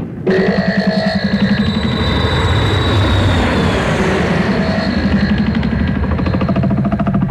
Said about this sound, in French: tu fais chauffer l'avion, s'il te plaît, on se barre pour le Canada.